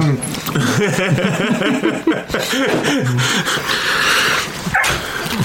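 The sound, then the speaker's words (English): A soaking-wet farm dog that came into a workshop smelling food whines, whimpers and yips with a few short barks mixed in, the high wavering cries running almost continuously while people talk in the background. “That dog's going to eat your sandwich, bro. That dog is going to eat that.”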